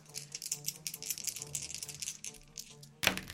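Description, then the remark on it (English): Dice rattle and clatter across a hard surface in a rapid, continuous jumble for about three seconds, ending with one sharper, louder clack, rolled in a tabletop role-playing game for damage of a maul hit on a wolf: 2d6 plus one extra d6 after a natural 20. No one speaks. “Damage plus 1d of your weapon's kind. Okay. So if it's like a 1d8, you get an extra d8.”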